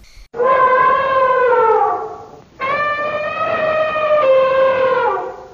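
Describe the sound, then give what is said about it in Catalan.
An elephant trumpets twice, each loud, brassy blast lasting about two seconds, its pitch sagging slightly toward the end, with a brief pause between and no voices. “Era l'elefant.”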